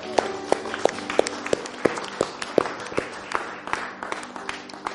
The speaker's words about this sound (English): And a clap of praise if you can.